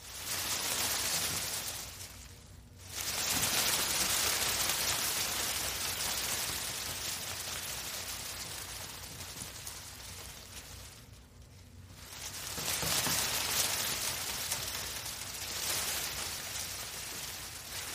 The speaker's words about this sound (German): Es rauscht einen leichten Wind mit Blätterrauschen. Ich musste wirklich an Wind und an Blättern denken, in Richtung natürlich Umwelt, Natur, Nachhaltigkeit, wofür natürlich wir als Unternehmen stehen.